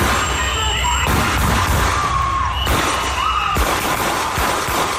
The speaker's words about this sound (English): 9 a.m. on Saturday morning, gunshots ring out across a stretch of the Whittier neighborhood of South Minneapolis known as Eep Street.